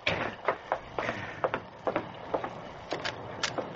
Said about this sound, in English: It was not until 2 hours later that he woke with a start. What? Someone was pounding on the door of the stable. It's midnight. Who can that be?